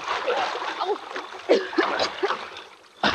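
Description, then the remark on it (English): Water splashes in a few sharp bursts as someone wades across a ditch about 20 feet wide, getting another person across, with a last loud splash at the end; strained voices and grunts sound between the splashes. “Now, come on, let's get across that ditch. In the water? No. I will not do it. I will not go into the water.”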